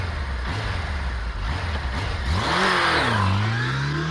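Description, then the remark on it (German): A Honda CBF 1000 motorcycle engine idles with a low rumble, then revs up sharply around the midpoint, its pitch rising and wavering before settling into a steady, loud drone. No one speaks. “Was ihm half, war sein Glaube und sein Motorrad. Mit letzterem, einer Honda CBF 1000, war er 10 Tage unterwegs”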